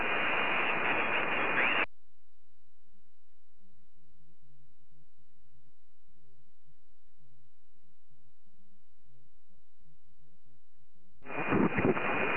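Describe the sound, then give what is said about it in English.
Harsh bursts of amateur radio static hiss loudly for a couple of seconds at the start and again at the end, with a faint, muffled warble of interference (QRM) drifting in the quiet gap between. “Could you repeat again and your call? Sorry, there was some QRM.”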